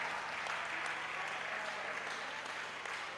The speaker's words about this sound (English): Clap for him. Clap for him.